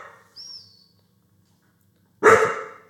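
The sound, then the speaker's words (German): A dog gives one loud, sharp bark, preceded by a faint high whine or squeak, with quiet between. “Wer hat denn jetzt den Hund geweckt?”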